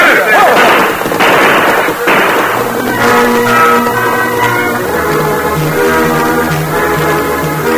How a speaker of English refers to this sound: The wounded deputy raised his gun, took careful aim, and fired.